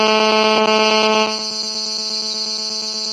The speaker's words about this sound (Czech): Tobě tam taky houká telefon, slyšíš, že tam?